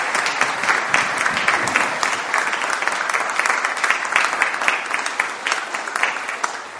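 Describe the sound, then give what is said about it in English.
A crowd of people clap steadily and warmly for several seconds, dense and sustained applause with no voices standing out. “We do applaud you, and it's lovely to have you back amongst us.”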